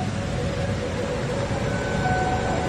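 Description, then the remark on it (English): A steady, loud roar of giant ocean waves splashing onto the ground by a tidal pool about 4 meters away, at the Mermaid Pool (Wa'a Wa'a) on the Big Island of Hawaii, April 2018: a dense, rumbling wash of water with no clearly separate splashes standing out; no one speaks. “There's giant waves splashing. You'll hear the sound.”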